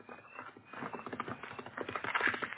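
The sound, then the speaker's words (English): The hooves of a horseman's horse clop in a quick, steady rhythm, growing louder as they draw nearer and close, with no voices over them. “What horseman is that so close?”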